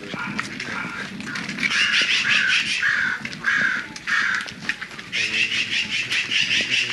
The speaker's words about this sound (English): There is crow.